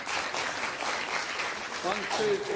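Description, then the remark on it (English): A crowd applauds steadily and fairly loudly throughout, a dense patter of many hands, with voices rising over the clapping toward the end. “Give them a clap.”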